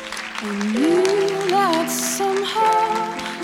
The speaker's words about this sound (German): Auf Platz 4 im Finale landet mit 40 Punkten. Applaus bitte für ihn,